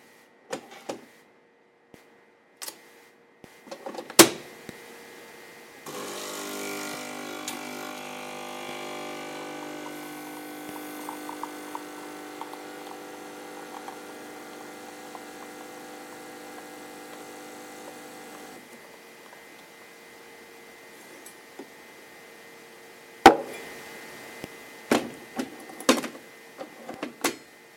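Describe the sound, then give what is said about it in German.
A small travel coffee machine brews coffee, running with a steady mechanical buzz and hum for about twelve seconds, bracketed by a few sharp clicks and clacks before and after. “Ob man das jetzt so gut gehört hat, weiß ich nicht, aber meine Kaffeemaschine begleitet mich seit heute auf Reisen.”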